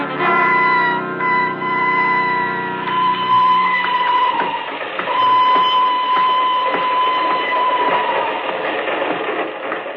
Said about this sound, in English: I'm leaving on the train to Bern.